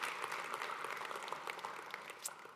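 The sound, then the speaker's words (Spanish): A crowd claps steadily and continuously as applause for the Lord during a sermon, a dense wash of many hands applauding together with no speech over it. “Si usted lo quiere, regalarle un fuerte aplauso al Señor, porque estamos diseñados con un propósito.”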